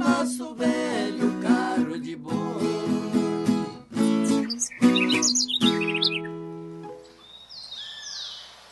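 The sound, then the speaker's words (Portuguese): Birds chirp and twitter in quick, high bursts, clearest toward the end, following a loud stretch of tuneful, sustained melodic sound that fades out. “Olha os passarinhos também. Os passarinhos estão na cantoria.”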